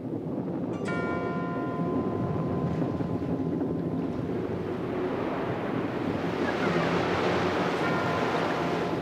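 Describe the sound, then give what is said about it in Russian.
A rough sea roars steadily with wind during a storm, waves surging, beating against a tiny rocky cliff and throwing up showers of spray, washing loudly throughout and swelling into a stronger crash about halfway through. A brief ringing tone sounds near the start. No voices. “Море бешено билось об него и окатывало их целым дождем брызг.”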